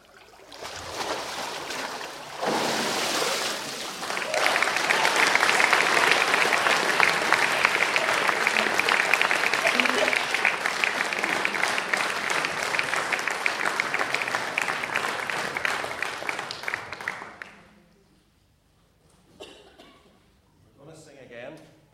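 An audience bursts into sustained applause after a baptism by immersion in a baptismal tank, loud and steady clapping lasting about fifteen seconds before fading out, followed by quieter murmuring and a few scattered sounds.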